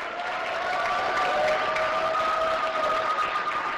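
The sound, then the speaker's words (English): A crowd claps and cheers steadily as lesbian and gay couples emerge from City Hall waving their marriage license forms. Dense applause fills the whole stretch, with a few sustained shouts and whoops riding on top, loud and continuous with no speech. “They emerged two by two, waving their validated license forms to a cheering crowd.”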